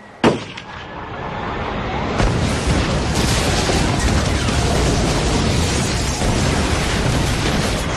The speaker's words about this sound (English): A combination of a deafening roar and a spectacular explosion of smoky orange flames that rose a good 100 feet into the Florida morning